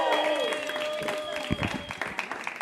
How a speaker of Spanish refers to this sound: Pero vamos a darle la bienvenida a alguien que de seguro a él no le importa dónde él saque su abanico. Él se lo sopla donde sea. Fuerte aplauso para Brian Carrión.